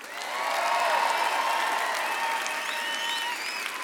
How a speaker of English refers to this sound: Ask you to give a huge round of applause to Ben on the bass.